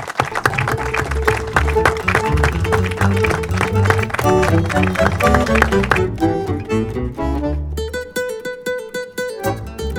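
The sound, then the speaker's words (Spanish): At the end of a public conversation event, an audience applauds steadily, a dense crackle of many hands clapping, with sustained musical tones sounding underneath and growing clearer toward the end. “¡Ay, aplausos!”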